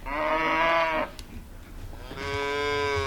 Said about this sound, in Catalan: Crec que és una vaca. Molt bé.